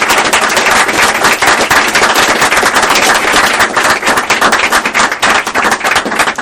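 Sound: audience applause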